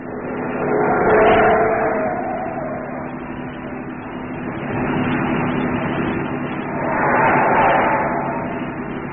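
A car engine hums steadily as the vehicle speeds through lonely streets near the docks, with the roar swelling in two louder surges, like passing acceleration, over a constant low rumble.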